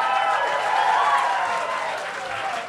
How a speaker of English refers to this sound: You know what? You may think I'm trying to milk some applause here, but it's true.